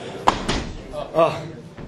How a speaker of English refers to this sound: Okay, so is that door closed a bit, or it's a bit noisy, and then we're ready to begin.